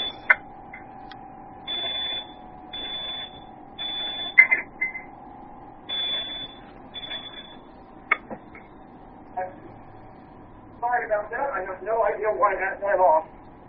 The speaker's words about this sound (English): I got a smoke detector going. Hang on a second.